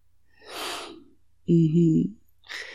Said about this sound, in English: I want to hear the little gasp as the pain hits.